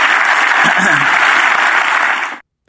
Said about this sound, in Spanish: Si Dios le habló, dé un aplauso al Señor, que Él se lo merece. Amén.